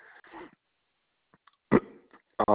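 A few short, abrupt hiccups from a caller during a phone call, separated by quiet pauses, with a softer breathy sound at the start.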